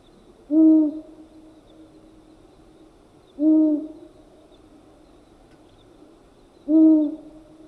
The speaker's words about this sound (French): Le hibou mâle a une des voix les plus lugubres des oiseaux. Sa voix ressemble au son qui s'obtient en soufflant dans un goulot de bouteille vide.